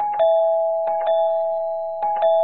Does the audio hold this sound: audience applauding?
no